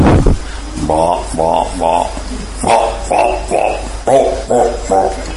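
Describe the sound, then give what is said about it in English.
A man's voice imitates a frog, giving a series of about seven short, throaty croaks in a steady rhythm, fairly loud, with brief pauses between them. “They make big sound in the jungle.”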